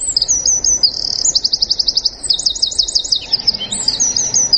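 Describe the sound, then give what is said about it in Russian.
A songbird sings continuously in bright, rapid trilled phrases and repeated chirps, clear, with no speech over it. “Под птичье пение мы завершаем нашу программу”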